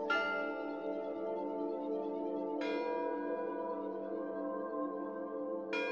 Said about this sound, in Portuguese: Até que o vento trouxe de longe o som das 12 badaladas na meia-noite.